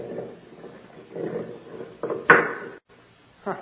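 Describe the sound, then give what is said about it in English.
A heavy stone door with a ring in it grinds and scrapes open in a low, rough rumble, building to a loud thudding jolt partway through, then a brief pause and a final scrape. No voices. “There's a stone door with a ring in it.”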